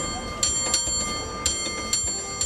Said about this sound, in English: Ah, yes, the trolley bell. Cable car operators have elevated that to an art form, which the City by the Bay celebrates with an annual bell-ringing contest.